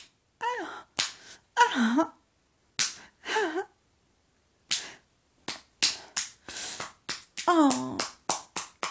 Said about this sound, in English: Slap it, Daddy. Slap my pussy. Oh, yeah, make it sting. Ow!